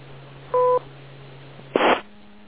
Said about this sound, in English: Wait for the beep.